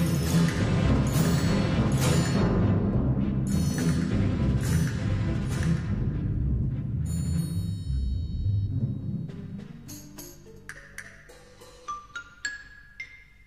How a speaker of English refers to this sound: And now, percussion all together.